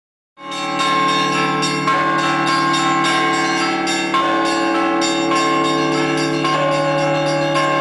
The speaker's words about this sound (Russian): Колокольный звон созывает людей на службу, помогает настроиться на молитву, сопровождает радостные и печальные события жизни.